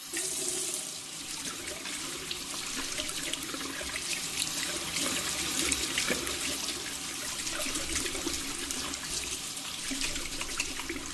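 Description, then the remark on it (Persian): Hands being washed under a running tap: a steady, bright rush of water that keeps going for the whole clip, with small uneven splashes breaking the flow and no voices. “بخیالم که یک نفر دست رویش میشست.”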